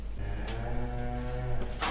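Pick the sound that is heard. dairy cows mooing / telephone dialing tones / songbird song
dairy cows mooing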